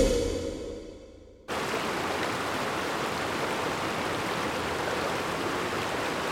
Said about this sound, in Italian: Il fiume che sentite scorrere sotto la mia voce è il Po, uno dei quattro lati del territorio canavesano. Siamo in Piemonte, in un'area compresa tra Torino e la Valle d'Aosta.